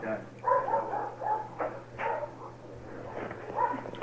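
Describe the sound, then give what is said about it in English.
Several dogs bark and yip, their calls overlapping in irregular bursts against a steady low hum, with faint voices mixed in. “It sounds like we're in a village someplace in the Middle East. The dogs are out there looking.”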